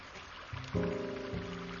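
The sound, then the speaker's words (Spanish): A babbling stream sound, selected as a background sound setting, runs steadily, its watery hiss filling the short clip at a soft, even level, with a low sustained tone joining in partway through. “Seleccionado, arroyo.”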